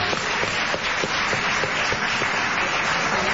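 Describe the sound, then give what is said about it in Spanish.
A crowd claps steadily in sustained applause, dense and fairly loud, with a few sharper individual claps standing out across the few seconds. No one speaks. “Un aplauso para Julia Mengolini.”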